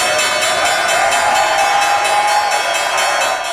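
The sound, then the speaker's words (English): The opening bell at the New York Stock Exchange, rung by President-elect Donald Trump, rings loudly and continuously for several seconds, a steady metallic clanging buzz with bright overtones, while a faint crowd murmurs underneath. “President-elect Donald Trump just rang the opening bell at the New York Stock Exchange after being recognized by Time Magazine as its Person of the Year.”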